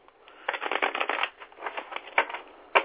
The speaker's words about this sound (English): I'm going to shuffle the cards, and we shall see.